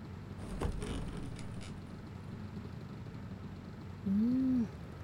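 Steady low rumble of an old bus's engine heard from inside the bus, with a brief rattling clatter near the start and a rising-falling tonal whine toward the end.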